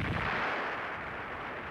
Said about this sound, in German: Die leise Explosion in der Ferne.